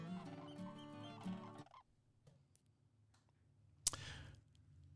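bird, bird sounds

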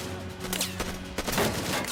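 sound effect, gunfire

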